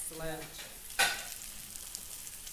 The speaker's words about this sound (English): So we're making the sauce now, and we it's are. Boiling up nicely, the whiskey. Mm-hmm. And it's kind of brown and foaming.